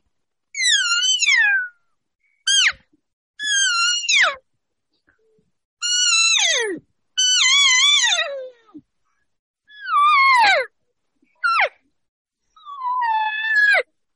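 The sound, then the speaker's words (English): A reed call blown as a cow call: eight nasal, mewing notes with no talking, some long and wavering, others short chirps, each sliding down in pitch, separated by brief silent gaps. “And of course, you know, I'm dancing it around and I usually even have another one or two with me at cow calls.”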